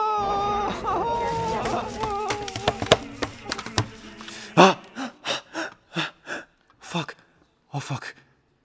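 A mother wails in long, wavering cries, then breaks into a series of sharp, gasping sobs and ragged breaths, loud, with short pauses between them.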